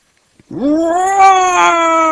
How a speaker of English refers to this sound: She feels a breath on her neck. There is a strange smell too. Oh, what's that? There are some little spots. They are shining in the dark. Are they eyes? She hears a roar.